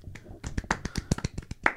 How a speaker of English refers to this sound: Polite clapping.